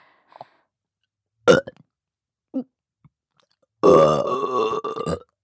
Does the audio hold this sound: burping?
yes